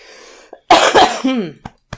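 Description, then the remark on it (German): Two harsh coughs in quick succession, followed by a brief throaty, voiced exhale and a couple of faint clicks. No one speaks. “Der Husten, das tut mir wirklich leid.”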